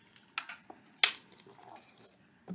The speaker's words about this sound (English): I'm going to take a drink of water real quick.